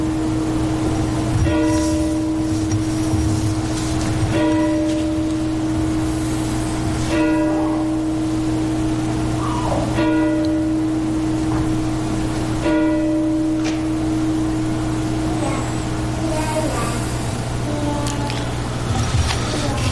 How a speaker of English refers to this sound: Let's take a moment of silence and the tolling of the bell.